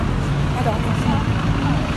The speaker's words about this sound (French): Et vous entendez la circulation, vous savez qu'on est vraiment en live. Ouh, le bruit du bus, c'est très désagréable.